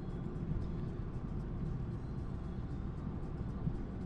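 A car accelerating at night to merge in front of a truck as its lane ends, heard from inside as a steady, low engine and road rumble that stays fairly even and moderately quiet throughout, with no voices.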